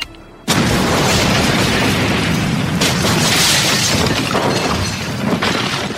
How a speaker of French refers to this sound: La résidence où vivent les personnages vient d'exploser. Sous vos yeux, mais pas un petit peu, une grosse explosion multiple, une explosion qui n'en finit pas. Ça explose de partout, les corps volent en l'air